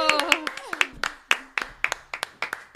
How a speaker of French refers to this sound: Wouhou, on peut l'applaudir.